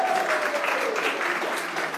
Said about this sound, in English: Yourself a round of applause.